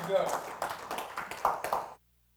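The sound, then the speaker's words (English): A church audience claps together as a praise to God in a dense, uneven burst of hand claps mixed with excited voices and shouts. The applause stays fairly loud for about two seconds, then cuts off abruptly into silence. “Let's give him a praise. Hallelujah. And a hand clap.”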